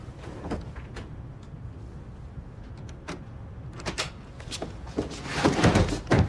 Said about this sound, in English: She picks the lock on the toilet door, then quietly carries her heavy suitcase in. Eilish watches from the bed as Georgina locks the door to the adjacent cabin and jams her suitcase up against it.